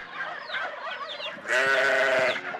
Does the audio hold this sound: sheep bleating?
yes